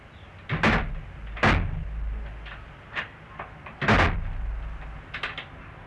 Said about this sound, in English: Slam it, Barbara. You're not trying to close that door. Hit it.